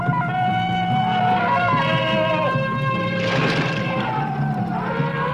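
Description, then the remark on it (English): Tarzan's long, loud jungle warning cry: one sustained yell that warbles and shifts pitch up and down for about five seconds, ringing out alone with no talking. “Tarzan's awesome warning cry is known to every living creature in the jungle.”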